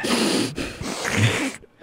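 breathing into the microphone

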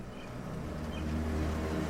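car approaching and parking

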